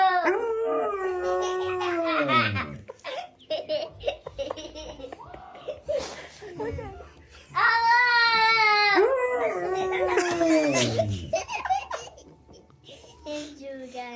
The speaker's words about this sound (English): This is a young lad talking to his dog and his dog talking back.